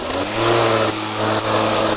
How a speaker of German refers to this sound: Und wir sind gerade beim Rasenmähen, denn so das ist das Thema unserer heutigen Sendung.